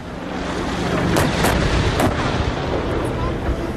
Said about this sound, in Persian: این در حالی است که شهروندان آذری ساکن در مناطق مرزی ایران از آغاز درگیری‌ها شاهد به پرواز در آمدن جنگنده‌ها و شنیده شدن صدای شلیک توپخانه‌های سنگین در دو سوی این درگیری‌ها بودند.